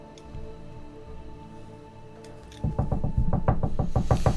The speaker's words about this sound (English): Quick, rapid knocks.